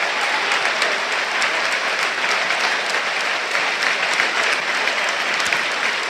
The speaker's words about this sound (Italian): Ed è così, siamo proprio al 90esimo, mancano 20 secondi, esce Cutrone, ex della gara, sentite gli applausi per lui.